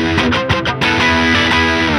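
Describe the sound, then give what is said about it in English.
Crunchy overdriven electric guitar played through an OS2 overdrive pedal: a few quick choppy strums, then a sustained, saturated chord ringing out with thick harmonic fuzz. No one speaks over it. “The OS2 is the DJ sound.”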